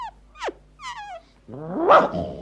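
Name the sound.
dogs barking and growling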